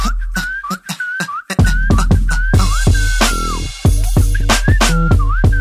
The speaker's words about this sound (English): I walk down the street whistling this.